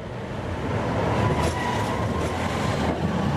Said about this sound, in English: An electric tram in downtown Berlin. It's a nimble, low-emissions way of getting around,